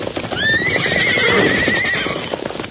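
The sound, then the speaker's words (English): A horse lets out a long, loud, quavering whinny lasting over a second, over a busy clatter of hooves as mustangs gallop, led by the white horse Silver to the corral gate. “But look at them Mustangs of yours.”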